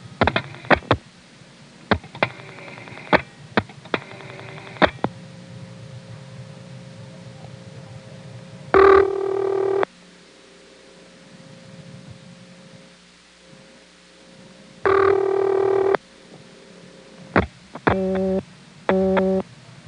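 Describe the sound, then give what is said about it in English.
A supervision test call to the 494 office code is dialed through a step-by-step switching exchange in Woodbridge: scattered relay clicks and pulses over steady line hiss and hum, broken by two short bursts of tone and a final cluster of clicks and tones. “The 49 drops the register sender, and then you directly dial the 4 into the switching train, and of course on the first selector, 1 goes to 491 and 4 goes to 494.”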